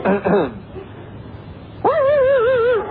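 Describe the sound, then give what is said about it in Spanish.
A person imitates a dog as part of an imitation act, first with a few quick yappy barks, then after a pause with a long, loud, wavering whine that carries to the end. “Hágale usted un poco el perro.”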